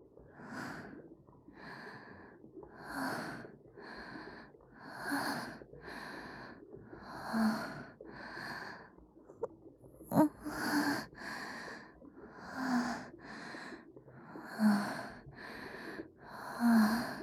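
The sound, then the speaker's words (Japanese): Heavy, rough breathing in a steady rhythm of about a dozen harsh, breathy pulses, each inhale and exhale clearly audible with a wheezy, raspy edge, with no talking. “息遣いが荒くなってるわ。”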